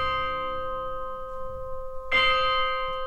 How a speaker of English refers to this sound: And the movement is set at midnight in a graveyard. So we've got all these spooky sounds that the composer is incorporating. We've got bells tolling.